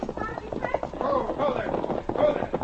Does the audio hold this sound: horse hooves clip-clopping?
yes